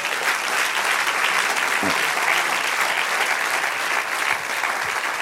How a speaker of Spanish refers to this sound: Un aplauso al Señor, amén.